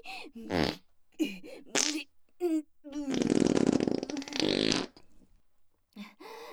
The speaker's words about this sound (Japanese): ほら、まだまだ出ますよ。こびこびへこき。お願いおなら。